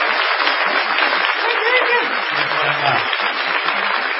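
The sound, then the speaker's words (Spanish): Audience applause at the Biblioteca Nacional during tributes to Gombrowicz: a dense, steady wash of many hands clapping that holds at an even, fairly loud level for the whole few seconds, with a brief low murmur partway through. “No menos inmerecida será la ovación que hemos de tributar a Gillespie.”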